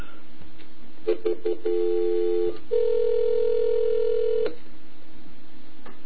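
A few quick clicks of a phone hook being flashed to bring another caller onto the line, then a steady dial tone, a short break, and a longer, higher tone that holds for about two seconds before cutting off. No one speaks.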